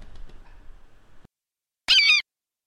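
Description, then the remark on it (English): A single loud, wavering squawk from a bird that has got indoors bursts out for a fraction of a second, following a stretch of low rumbling background noise and a brief silence. “How did a bird get in here?”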